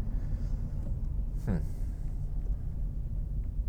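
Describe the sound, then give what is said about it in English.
A car engine drones steadily in a low, continuous rumble, broken midway by one brief rising rev as the driver downshifts from third to second gear and brakes, then settling back into the same hum. “So now I'd like to shift down. That kind of does it for me. 3, 2, this is me shifting now. Oh, put on those mushy brakes.”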